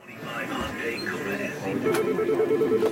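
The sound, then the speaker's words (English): A busy call center in Tijuana, Mexico: a murmur of overlapping operator voices talking at once as they work through long lists of U.S. phone numbers. A faint telephone ringing tone rises near the end, and the sound stays steady and moderately loud throughout. “Over a steady hum of activity, operators at the Easy Call Center in Tijuana work through long lists of U.S. phone numbers.”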